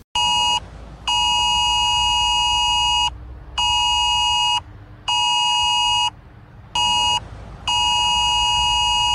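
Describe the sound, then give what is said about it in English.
A loud, harsh electronic government emergency alert tone on a mobile phone blares in repeated bursts of uneven length, separated by brief gaps. No one speaks. “Anyway, here's the sound that we will hear.”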